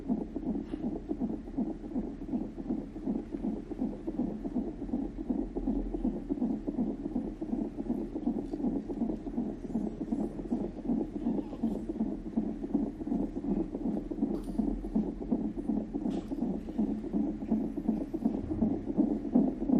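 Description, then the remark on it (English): A baby girl's fetal heartbeat on a Doppler monitor just before her birth: rapid, steady whooshing pulses that throb continuously and evenly for the whole stretch, fairly loud, with no voices over it. “So that what you're hearing right now was this little girl's heartbeat just before she came out of her mummy.”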